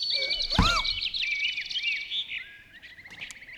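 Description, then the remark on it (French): Birds chirping and twittering in a busy, continuous chorus of quick high-pitched calls, with a brief low thump early on and a soft outdoor background. “L'oiseau. Oiseau. L'oiseau.”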